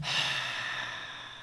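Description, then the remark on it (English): A single long, breathy open-mouthed exhale, like fogging a mirror, steady, fading slightly as the air runs out, during a side-rib breathing exercise. No talking. “So breathe out with me like you're fogging a mirror.”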